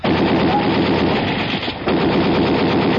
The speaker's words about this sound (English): I'm going to blast the lock on the door.